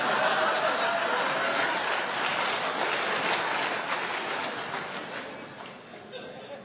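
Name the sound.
audience clapping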